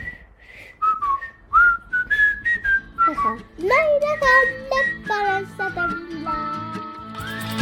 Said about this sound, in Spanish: Pues ya sabéis que a nosotros nos gusta silbar. Y cuando vamos por la calle, a veces vamos silbando.